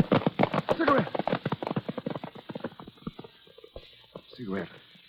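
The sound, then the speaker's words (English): Horse hooves clip-clop in a quick, steady rhythm, then slow and thin out to scattered knocks, with a brief voice sounding near the end, as a horse is ridden out into a desert. “If you don't stop, I'll have to lift you off your horse.”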